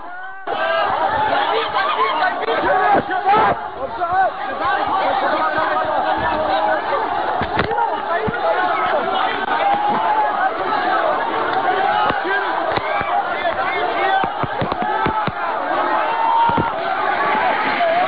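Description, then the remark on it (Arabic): A dense crowd at a peaceful street demonstration in the al-Jubaila area of Deir ez-Zor clamors and shouts continuously as the demonstration is attacked, sharp, sudden bangs cracking out every few seconds, cutting through the commotion. “هكذا استهدفت المظاهرة السلمية في منطقة الجبيلة في دير الزور، معلنة الأسبوع الأسود للدير، بمجزرة راح ضحيتها أكثر من 40 شهيدا وأكثر من 100 جريح بحالة خطيرة.”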